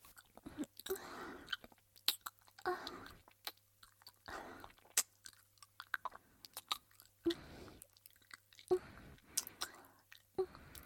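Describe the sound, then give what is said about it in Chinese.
Quiet chewing of chicken by a woman chewing it up to feed a child: soft wet mouth sounds and occasional crunchy bites repeating in uneven bursts, with brief pauses between mouthfuls and no talking. “没事儿，你要吃哪个和阿姨说，阿姨嚼碎了喂你。”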